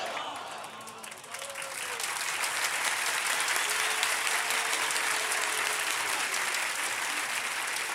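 An audience at a celebration of the birth of Imam Hasan breaks into applause that swells within the first couple of seconds and then holds as a dense, steady wash of clapping, with faint voices calling out underneath.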